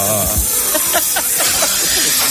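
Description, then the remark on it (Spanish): A snake beneath a prize trophy hisses in a loud, steady, breathy rush that carries on unbroken for a couple of seconds. Faint murmuring sounds sit underneath. “Papá, mira una serpiente debajo de tu premio de orujero mayor.”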